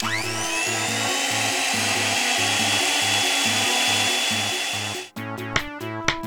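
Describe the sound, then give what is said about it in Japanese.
A kitchen blender whirs up to speed and roars steadily for about five seconds before cutting off abruptly, with a rhythmic, bass-heavy beat pulsing underneath and continuing after the motor stops. “株と株主と総会屋をミキサーにかけます。”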